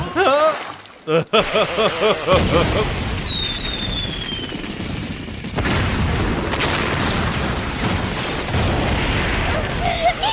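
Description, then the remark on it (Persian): Loud fireworks burst and crackle in a dense, continuous barrage, with a descending whistle streaking through and a sharp new blast midway. A short laugh-like voice is heard at the start. “من خیلی از آتش بازی خوشم میاد.”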